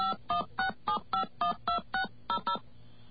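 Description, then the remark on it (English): Touch-tone keypad beeps dial the phone number of 2600 Magazine into an automated phone line: about a dozen short, bright dual-tone presses in a quick, steady rhythm, each a clear separate beep, with no voices. “All right, we're just going to enter the number for 2600 Magazine, see what happens.”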